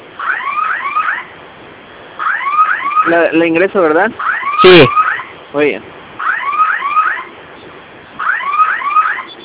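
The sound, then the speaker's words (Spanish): A home security alarm siren, set off by holding the two fire buttons on the alarm keypad for five seconds, wails in repeating bursts of rising electronic sweeps, loud and steady, while a couple of people briefly talk over it partway through; the sound is thin, like over a phone line. “De acuerdo, ¿se está escuchando la sirena o está emitiendo algún sonido?”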